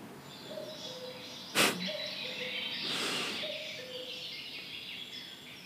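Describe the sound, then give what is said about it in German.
A cuckoo calls faintly several times in steady two-note phrases over a hissy background, interrupted by a sharp knock and a brief rush of noise. “Nö, der Kuckuck muss warten.”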